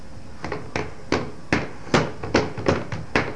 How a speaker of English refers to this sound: Where's the shower? Shower. Can you bang on the shower door?